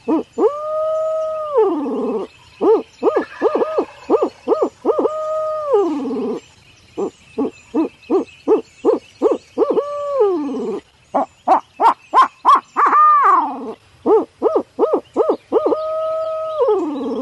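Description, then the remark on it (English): Barred owl hoots blown on a handheld Hooks Custom Calls Signature Series owl hooter, starting with an 8-note hoot ('who cooks for you, who cooks for you all'): a loud series of rhythmic hooting notes with drawn-out, sliding calls and quick chattering bursts, no talking over them. “That's just a basic calls of a barred owl. What I'll start out with is a 8-note hoot, who cooks for you, who cooks for you all.”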